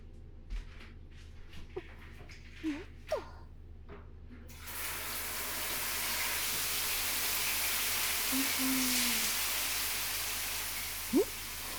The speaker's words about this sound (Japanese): シャワーお借りしますね。